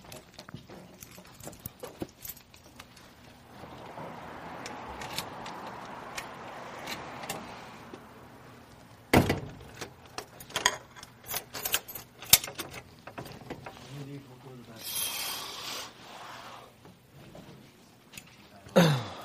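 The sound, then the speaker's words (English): Keys jingle and a lock clicks as a front door is locked, with scattered metallic taps, a solid thunk partway through and more rattling after. No one is talking. “I'm just going to lock this front door.”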